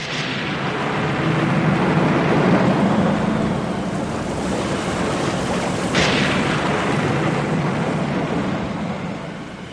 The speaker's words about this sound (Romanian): În jurul lor, furtuna se dezlănțuia cu furie și marea mugea grozav.